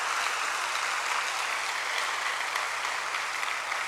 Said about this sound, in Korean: 지방방송으로 올해 30주년을 맞이하는데 여러분들의 기도, 여러분들의 헌신, 여러분들의 헌금으로 오늘날까지 빚없이 대전 극동방송을 잘 운영할 수 있도록 도와주신 여러분들에게 한번 하나님 앞에 영광의 박수 올려주셨으면 감사하겠습니다.